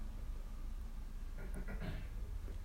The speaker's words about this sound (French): Vous entendez les voitures qui passent dans la rue.